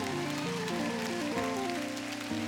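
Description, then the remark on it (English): An audience claps hands in praise to God in a dense, continuous patter of hand claps, while a sustained keyboard melody moves through stepping notes underneath. “Somebody ought to lift up your hands and give God a hand clap for praise.”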